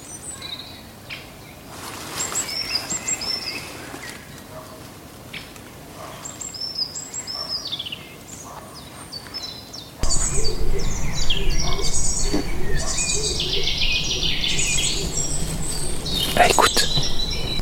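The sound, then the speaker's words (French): A stock dove gives repeated low, hollow cooing notes in a woodland, with other small birds chirping and trilling around it; the background grows louder and busier partway through. “Ça, on dirait un singe. Ça fait ouh ouh ouh. Ça, c'est un pigeon colombin.”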